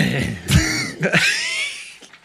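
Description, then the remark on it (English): A man clears his throat in a few rough, raspy bursts after performing a vocal sound effect, fairly loud, with strained breathy vocal noise between them and no speech. “You could hear him kind of struggling with his throat afterward.”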